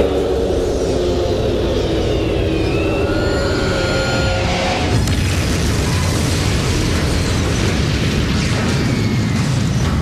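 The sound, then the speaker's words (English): A loud, continuous roar of an airplane breaking apart, with screeching metallic whines giving way midway to a violent explosive burst and sustained crashing rumble, no voices. “So let's play the plane clip because it's got some stuff in it.”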